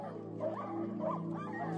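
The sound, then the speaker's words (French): The lead dog of a sled-dog team yips and whines in two rising, wavering cries over a steady low hum, fairly loud, with no one talking. “C'est le chef des chiens de traîneau qui leur lape le visage.”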